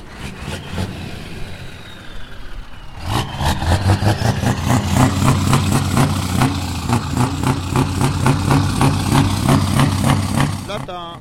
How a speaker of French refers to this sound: Là, c'est encore un autre type de moteur, ça, par rapport à tout ce que je t'ai fait voir.